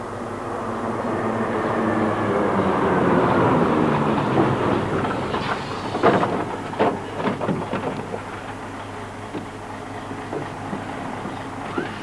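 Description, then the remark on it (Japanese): A neighbourhood pest-control disinfection truck, which sprays white smoke, makes its rounds. Its motor drones in a broad, steady rumble that swells over the first few seconds, then gives way to rattling, irregular clicks and knocks as it carries on. “お母ちゃん、消毒の車が来たよ。”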